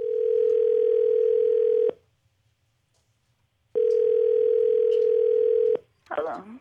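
Two long, steady electronic ringback tones sound over a phone line with a pause between them, and a voice briefly picks up right after the second ring.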